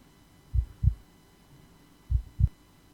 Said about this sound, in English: Loading. And that's his heartbeat going.